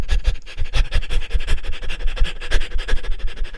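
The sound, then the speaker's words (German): A person pants quickly and rhythmically as a breathing exercise, short breathy huffs repeating in a steady fast pattern for several seconds, fairly loud, with no talking. “Macht das ruhig noch 3-4 Mal, dass ihr ein paar Sekunden hechelt, dann zur Ruhe kommt und dann nochmal für ein paar Sekunden ins Hecheln geht.”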